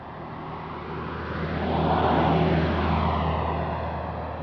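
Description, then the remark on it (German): Cars pass by on a village street in Schönwalde im Spreewald, Germany, 80 km southeast of Berlin, on a grey, cold December morning. The engine rumble swells to a peak midway and then fades, with a steady low traffic hum throughout and no voices. “Autos fahren vorbei, aber Fußgänger sind auf der Straße nicht zu sehen.”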